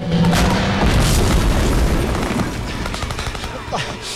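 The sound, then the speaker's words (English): A tank shell hits a block of flats in a loud, rumbling boom, followed by rolling debris and sharp crackling bursts as the roar slowly fades over about four seconds. “He watches a tank trundle up and bomb the flats.”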